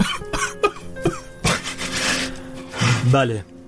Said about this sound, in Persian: آره دیگه، به من حالم خیلی بده، من خوب گریه کنم.